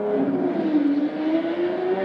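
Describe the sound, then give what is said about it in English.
A car engine roars steadily as the car speeds by, a loud, continuous rush of motor noise with a rising whine. No voices are heard. “So, did you just trance out of something to listen to that car speed by?”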